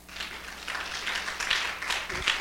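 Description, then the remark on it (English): A crowd claps together in a steady, dense patter of applause lasting a couple of seconds, fairly soft. “Can you clap”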